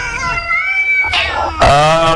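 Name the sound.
cats meowing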